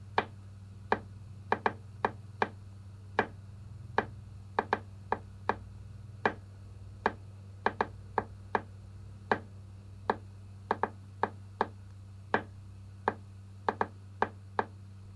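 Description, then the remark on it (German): The pad of the right index finger, not the fingernail, softly drums a repeating rhythm in a rhythm exercise, light clicks in uneven groups of two and three over a steady low hum. No one speaks. “Und nun trommelt ihr leise mit dem rechten Zeigfinger, nicht mit dem Fingernagel, mit mir diesen Rhythmus einige Male mit.”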